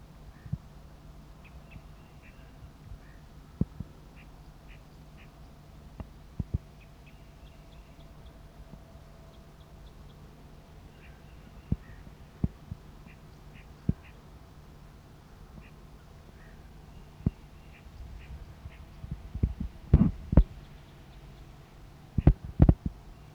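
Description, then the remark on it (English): A duck decoy's flight call, answering a vocalizing wild male bird perched in a tree, comes as faint bursts of short, high, squeaky notes repeated in loose clusters, with scattered sharp clicks and knocks that grow louder and busier toward the end. “Decoy responds with a flight call.”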